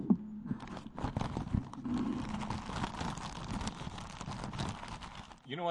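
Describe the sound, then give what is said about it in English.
A plastic Ziploc zip-top bag full of homemade, home-smoked chipotle peppers is opened and handled, giving several seconds of steady crinkling and rustling with sharp crackles throughout and a brief low vocal murmur near the start. “That's a Ziploc bag opening up,”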